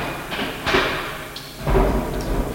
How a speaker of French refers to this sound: Des portes qui claquent.